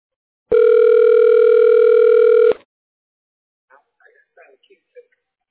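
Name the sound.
telephone ringback tone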